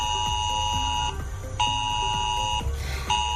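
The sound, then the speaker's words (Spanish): A mobile phone emergency alert tone, sent at 10:45 a.m. across Huelva province, Spain, as a red warning for heavy rain: a loud, harsh, buzzing multi-pitched blare that sounds in long bursts with brief gaps between them, repeating steadily with no voices. “Este ha sido el sonido que nos ha acompañado y es que era a las 10:45 de la mañana cuando los móviles comenzaban a emitir este sonido.”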